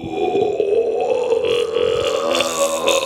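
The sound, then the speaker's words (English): A person imitates the call of howler monkeys in the jungle: one long, loud, guttural roar held for about three seconds, low and rough, with a droning, buzzy quality and shifting vowel-like tones. “it was just this family of howler monkeys marking their territory with this like,”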